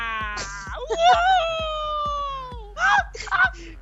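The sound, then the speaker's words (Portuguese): A goat screams in a long, wavering, human-like cry that slowly falls in pitch, followed by two shorter harsh bleats, with a faint steady ticking beat running underneath. “Colocar aquela cabra gritando também.”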